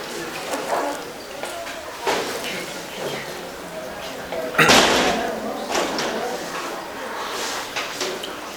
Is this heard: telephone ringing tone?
no